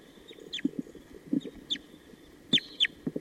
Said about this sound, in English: Sounds like there are wild crossbills coming around. Somewhere.